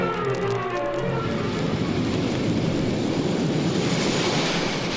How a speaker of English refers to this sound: Soon, Wonder Woman in her invisible plane is racing at incredible speed to her rendezvous with Doomsday on a remote island in the mid-Pacific.